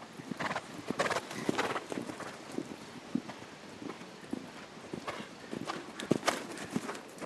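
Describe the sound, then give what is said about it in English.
Eight ridden horses canter around a large outdoor ring at the U.S. Equestrian Team headquarters during a side saddle event, their hooves clip-clopping in a quick, uneven rhythm of sharp knocks over a steady background rustle, with a brief whinny. “A small crowd watches as eight riders canter around a large outdoor ring at the U.S. Equestrian Team headquarters.”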